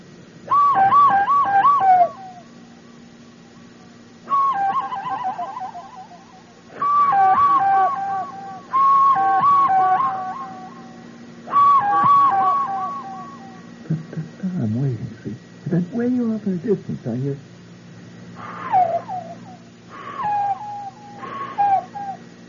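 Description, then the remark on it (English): A person mimics a bird of prey through cupped hands, giving a series of loud, hollow, whistling cries in repeated bursts, with a lower warbling stretch midway and three shorter calls at the end. “It's an answering cry of a fellow bird of prey walking down the alley someplace.”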